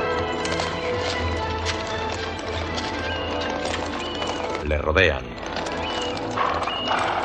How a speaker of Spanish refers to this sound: Cuatro soldados a caballo galopan hacia él.